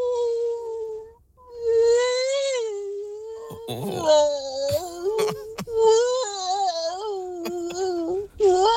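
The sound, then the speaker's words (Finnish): A person's voice imitates a whale call at karaoke, with long, sliding, tonal moans that rise and fall in pitch, growing into a more howl-like wail toward the end, interrupted by a few brief breaks. “Valana se alkoi, mutta kyllä se ulvoaksi koiraksi muuttui loppua kohti.”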